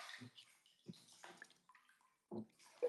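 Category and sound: household object, water running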